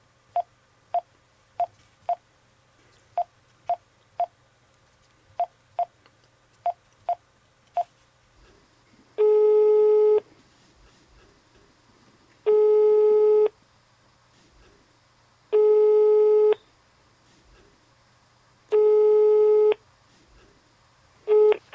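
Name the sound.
telephone ringing tone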